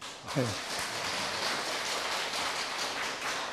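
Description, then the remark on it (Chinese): An audience at a Buddhist Dharma talk claps in thanks, a steady, dense wash of clapping sustained at an even level for several seconds, with a brief voice heard right as it begins. “好，大家鼓掌感谢哈。”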